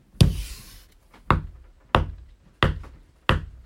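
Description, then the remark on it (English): Five sharp, solid knocks tapped out as a Morse code digit, taken to be the number 6: one knock, a short pause, then four evenly spaced knocks, each dying away quickly, with no voices. “Can you knock once for yes and twice for no?”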